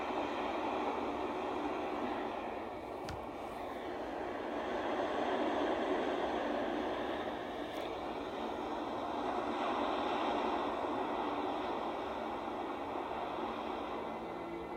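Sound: ocean waves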